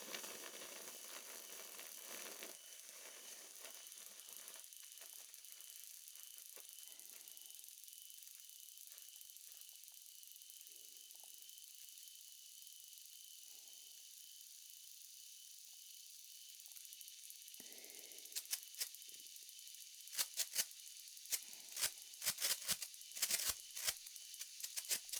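A large combined sparkler ball burns with a steady, bright fizzing hiss, then erupts into sharp, irregular crackling pops toward the end, fairly loud, with no voices.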